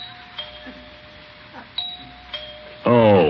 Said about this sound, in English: Why is he ringing the doorbell after I left him that note?